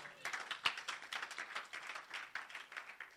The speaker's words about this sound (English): And many of you, your money is going into it. Clap for yourself.